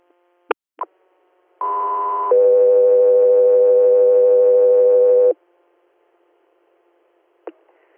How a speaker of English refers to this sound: Guthrie Air, stand by for tones.